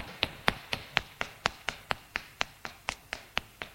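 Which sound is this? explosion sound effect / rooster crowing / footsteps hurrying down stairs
footsteps hurrying down stairs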